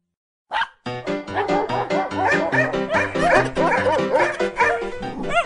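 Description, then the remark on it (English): A dog, Lulu, barks and yips nonstop for about five seconds, a loud, rapid string of high-pitched, excited yelps with no one talking over it. “Lulu is the first dog we've ever had that truly loves her toys.”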